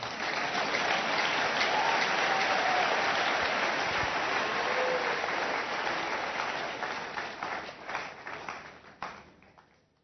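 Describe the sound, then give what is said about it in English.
Sustained audience applause, a dense wash of many hands clapping at steady loudness, then thinning into scattered individual claps as it fades out near the end. “Clap well, oh.”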